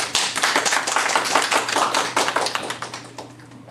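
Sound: audience applause welcoming speaker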